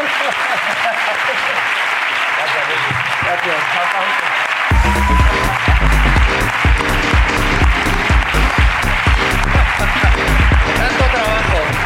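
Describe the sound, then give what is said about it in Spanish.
A small group claps and cheers loudly and steadily, joined partway through by upbeat music with a heavy beat while the applause continues; a voice briefly speaks. “¡Aplauso para la ruina”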